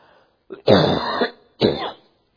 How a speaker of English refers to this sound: I think I'm going to be coughing a lot. I apologize for that. I went to an Orioles game and did a whole lot of hooting and hollering. And I should know better than doing that at my age. I think I hurt my vocal cords.